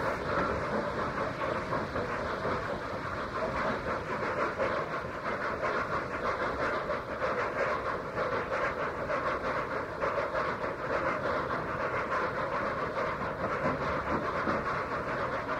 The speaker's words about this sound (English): The deep thudding two-cylinder exhaust of the Black 5 is heard first, but soon overtaken by the crisp three-cylinder exhaust of the A4 as they haul the heavy train away from its penultimate stop into Haymarket Tunnel. There's the A4 cutting in.